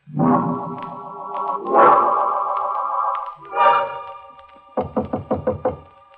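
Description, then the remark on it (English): Loud, sustained musical chords swell and fade, then a quick run of about five sharp, evenly spaced knocks on a door rings out over a lingering tone. “He knocks on my door.”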